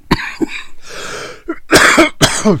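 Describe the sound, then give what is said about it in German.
Several harsh coughs in quick succession, with a raspy breathy stretch in the middle and two strong bursts at the end; no talking. “Hier habt ihr auch nochmal live eine Kostprobe, wie sich das so anhört, weil ich hier die ganze Zeit mache und wieder rausschnippel.”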